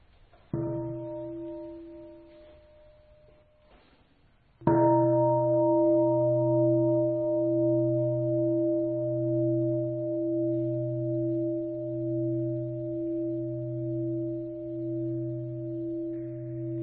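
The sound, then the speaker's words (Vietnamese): A deep Buddhist temple bell is struck twice by a monk, the second strike louder, each leaving a long, sustained ringing hum with a slow wavering pulse, as children stand with joined palms before the altar to bow to the Three Jewels. “Con xin Thầy thỉnh ba tiếng chuông cho các em đảnh lễ Tam Bảo.”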